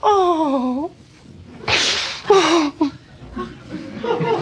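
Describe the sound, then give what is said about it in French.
Two sharp slaps to the face, given by a father to his child, land a moment apart, each a bright smacking crack, after a wailing voice and followed by pained cries and whimpers. “Tout le temps me foutre des gifles quand je veux pas manger des machins que j'aime pas.”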